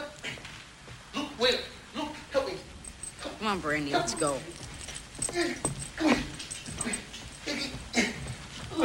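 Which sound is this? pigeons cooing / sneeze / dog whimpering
dog whimpering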